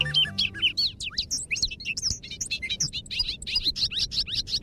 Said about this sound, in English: The bobolink may just be the happiest bird of spring. There's such delight in the bobolink's bubbly, jangling song.